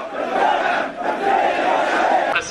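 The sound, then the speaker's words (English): A large, furious crowd of thousands at a funeral procession in Sitra, Bahrain, chants in unison for the downfall of the ruling monarchy, voices loud, rising in rhythmic waves of shouting that swell and dip briefly before surging again. “The furious crowd call for the downfall of Bahrain's ruling monarchy.”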